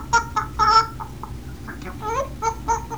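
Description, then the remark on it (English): A voice imitates a chicken with a series of short, bright clucking bursts in an uneven rhythm, moderately loud, over a low background rumble. “And a chicken?”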